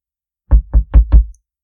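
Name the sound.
knocking on a door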